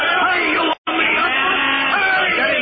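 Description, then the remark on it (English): A crowd of technicians cheering and shouting together as they run toward a ship, a loud, continuous roar of voices, with a brief cut to silence partway through before the excited yelling resumes. “Listen to the cheering of the technicians as they run toward the ship.”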